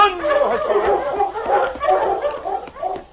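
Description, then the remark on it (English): Sergeant Preston's team of sled dogs barks and yips excitedly as they are unchained and set off on the trail out of Dawson, many overlapping voices in a loud, continuous clamor with no pause throughout. “As Sergeant Preston's dogs covered the well-traveled trail out of Dawson, neither the Mountie nor Bob Kelly had any way of knowing that this was the route Blackie and Craig had chosen.”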